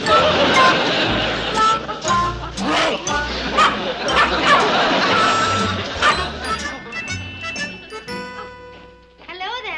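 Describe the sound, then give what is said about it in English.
A dog barks several times in short, sharp bursts amid a busy, cluttered background with voices murmuring and some clattering, the barks fairly loud. “That's a good dog.”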